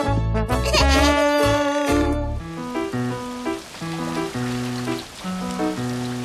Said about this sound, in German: Es regnet.